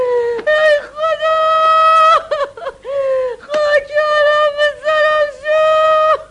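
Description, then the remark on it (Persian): A woman in a village wails and laments in long, sustained, high-pitched cries, her voice rising and falling with sobbing breaks in between, loud and unbroken by any other talk. “صداهای زجه و شیونی یه زن به گوش میرسه.”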